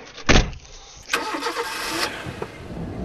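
A car engine: a brief thump, then the motor turns over and keeps running with a steady, rough rumble. No voices.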